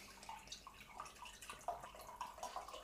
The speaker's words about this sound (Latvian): Mēs, tie, kur klausās tikai audio formātā, mēs nelējam ūdeni tekstos, mēs lējam ūdeni glāzē.